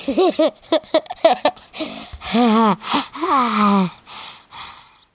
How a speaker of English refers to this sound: You're breathing on the microphone!